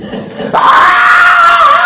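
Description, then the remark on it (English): A voice mimics a woman screaming in labor in a hospital labor room: one loud, sustained, high wail held for over a second, rising sharply after a brief rougher vocal sound at the start. “That lady was screaming like a stuck pig.”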